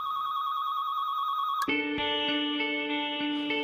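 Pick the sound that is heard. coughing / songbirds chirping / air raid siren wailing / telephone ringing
telephone ringing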